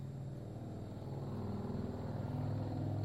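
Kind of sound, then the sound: vehicle, car engine running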